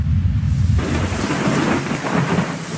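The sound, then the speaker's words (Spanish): A thunderstorm in full force: a deep rumble of thunder rolls beneath steady, loud rainfall that hisses across the whole clip, with no voices. “Las tormentas son una demostración asombrosa de la fuerza del Creador.”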